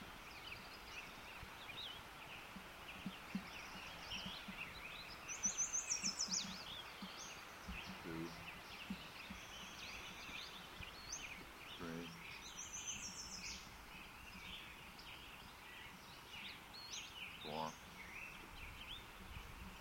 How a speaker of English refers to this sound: Western Flycatcher number 7.